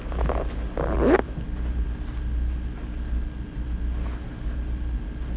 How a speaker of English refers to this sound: A zipper.